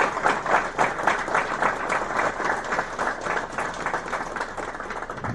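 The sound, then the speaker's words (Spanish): An audience breaks into steady applause, a dense crackle of many hands clapping at a brisk pace that holds at an even, fairly loud level for several seconds with no voices over it. “Él también le hubiera gustado un aplauso.”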